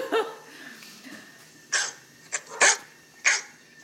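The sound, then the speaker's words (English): A dog barks several times in short, sharp bursts, one early and then a quick irregular cluster toward the end, moderately loud with no talking over it. “Who let the dogs out?”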